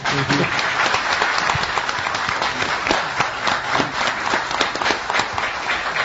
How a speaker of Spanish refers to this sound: Estamos bien acompañados además aquí en la platea, así que a los amigos que han ido llegando les pido que vayan saludando con un aplauso, por ejemplo al doctor Carlos Maggi.